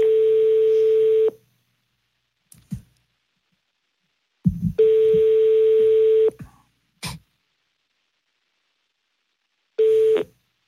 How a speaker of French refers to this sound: Bah, on compose le numéro et on voit ce qui se passe.